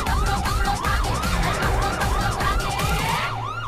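A police car siren wails loudly in fast, repeating rising-and-falling sweeps, running continuously over a low rumble of engine and traffic noise, as the police car chases a tempo.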